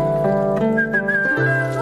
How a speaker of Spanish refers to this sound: Rebeca tiene una casa grande, una sonrisa dulce y un perro vagabundo. Que no es suyo, pero que Rebeca lo llama silbando.